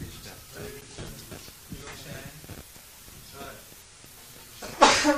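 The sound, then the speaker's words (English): Someone talks quietly for several seconds, then a single loud, sharp sneeze bursts out near the end, breathy and explosive. “Bless you.”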